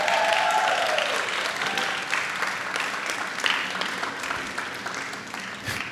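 A crowd claps steadily in a dense, sustained wash of applause that gradually thins and softens toward the end, with a few scattered louder claps near the close.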